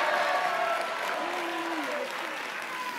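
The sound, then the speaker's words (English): An audience claps hands in a dense, steady roar of applause, with scattered voices shouting and cheering over it, loud and sustained from start to finish. “Come on, if that sounds like you, let the Lord hear your anointed hand clap and shout.”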